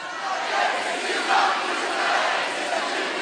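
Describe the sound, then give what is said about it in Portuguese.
A large concert crowd shouts together in a loud, sustained roar, many voices blending into a dense wall of cheering with slight swells in volume throughout, after the performer asks them to really scream. “Não tô muito rock and roll, não, quero ver vocês gritando de verdade agora.”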